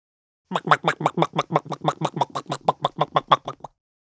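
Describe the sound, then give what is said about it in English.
A chicken walking briskly, giving a quick, steady run of about nineteen short clucking pulses over roughly three seconds, evenly paced and moderately loud, with no other sounds. “Chicken walking briskly.”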